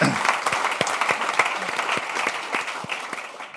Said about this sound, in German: Vielleicht klatschen wir da einmal.